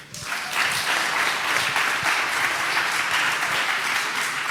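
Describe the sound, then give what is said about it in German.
A crowd applauds with steady, dense clapping that swells quickly after a brief start and holds at an even, loud level throughout, with no talking over it. “Applaus.”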